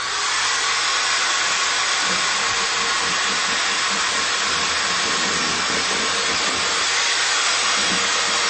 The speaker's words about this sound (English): we just go ahead and cut right to the chase with the power drill